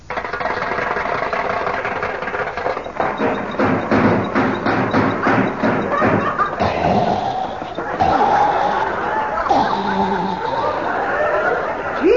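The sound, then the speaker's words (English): A car engine is cranked and coughs unevenly, a run of rapid sputtering pulses and thumps, then a rough, rattling churn that never quite catches into a steady idle. “Still has that dangerous cough.”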